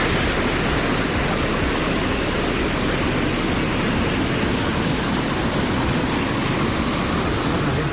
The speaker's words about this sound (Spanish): la impredecible tormenta que se desató la noche del viernes y que sonaba así.